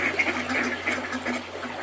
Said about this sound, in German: Eine große Schar von Enten hat sich auf dem Bach versammelt und macht ein bisschen Lärm.